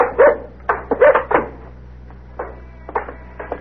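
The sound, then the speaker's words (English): A dog barks in short bursts, two quick pairs of loud barks up front, then softer, scattered yips trailing off over a steady low hum, with no talking. “He's a nice dog.”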